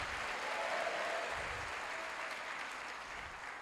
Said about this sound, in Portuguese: Dê um forte aplauso a Jesus de verdade agora. Isso. Dá uma glória a Deus aí.